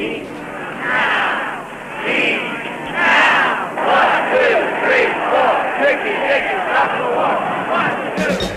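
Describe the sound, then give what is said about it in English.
A large crowd of mostly young protest marchers in Washington, D.C., at the March Against Death on the second Moratorium Day, November 15, 1969, chants and sings together, a dense, steady roar of massed voices with rhythmic swells rising and falling throughout. “In Washington, D.C., they marched, they chatted, they sang. It sounded like this.”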